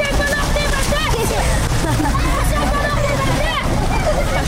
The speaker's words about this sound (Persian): جاده پشنستان کابل، جایی که کارهای باسازیان به شدت ادامه داشته و حالا تکمیل گردیده و این منطقه قابل توجه مردم نیز شده است. در این جاده فواره آب باسازی شده که در آنجا جوانان عکس های یادگاری می گیرند و به یک جای خوب برای بازی اطفال مبدل شده است.